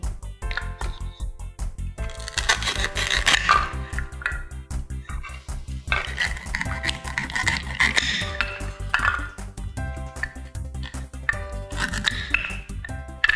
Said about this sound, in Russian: Теперь режем.